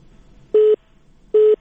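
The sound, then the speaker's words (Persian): A telephone line tone after a listener's call drops during a Radio Azadi call-in show: two short, steady beeps of equal length, spaced evenly apart with a faint hiss between them. It is fairly loud, with no voices. “خوب تماسی شنونده ما فکر کنم قطع شده است.”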